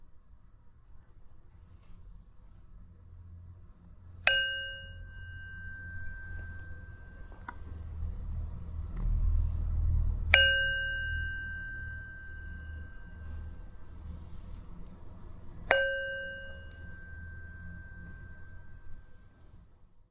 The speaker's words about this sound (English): And at the end of the third ring of the gong, if you wish, you can gently open your eyes.